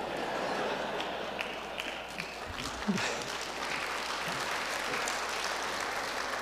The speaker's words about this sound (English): You know, that gets applause too.